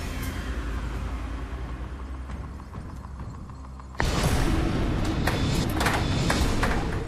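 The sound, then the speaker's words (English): A game counter is dropped into Drop Zone 2 of a tipping point machine and clatters down inside it, with quick irregular knocks and bounces over a steady mechanical hum that grows louder partway through. “Bouncy drop. Nice and flat.”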